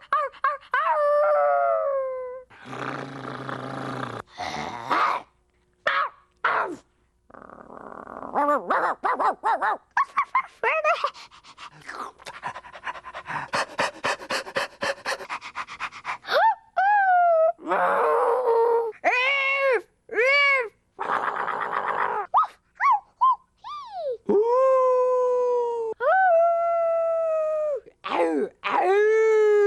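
A dog yelps and howls in wavering, rising and falling cries, broken up by bursts of quick, breathy panting, all fairly loud with no talking.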